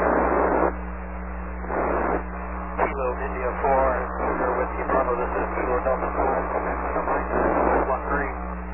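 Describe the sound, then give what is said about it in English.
A strong, steady radio carrier hums continuously throughout, with hissy, band-limited static and garbled, voice-like transmission bursts riding on top at a fairly loud, even level. “There's a pretty strong carrier there right now.”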